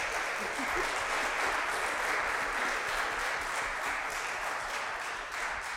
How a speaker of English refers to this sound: What a gift that has been and how much work has gone into that. So if you would do another round of applause, please.